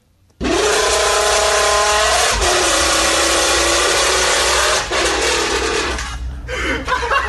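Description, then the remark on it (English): A man blows into a crushed can, making a loud, raspy, buzzing drone that holds for several seconds, shifts pitch partway through, then breaks into short sputtering bursts. “That's a guy blowing into a crushed can.”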